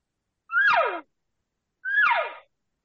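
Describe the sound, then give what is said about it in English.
A voice imitates a cow call amplified through a tube as a location bugle: two separate, nasal mewing calls, each about half a second long, sliding from high to low pitch with a short pause between them. “Cow sound through the tube.”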